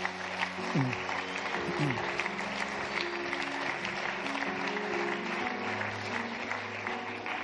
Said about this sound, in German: Komm, Leute, sollen wir diesen Leuten Applaus geben.